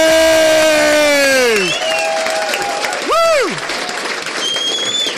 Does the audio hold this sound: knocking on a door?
no